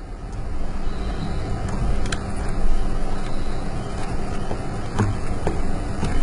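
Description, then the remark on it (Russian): Steady outdoor street ambience in a video game: a continuous low rumble with a soft rustle of leaves, a faint, thin insect chirring and birds calling, with a few brief ticks and no voices. “Амбиент улицы, амбиент шелеста листвы, стрёкота насекомых и оранья птиц.”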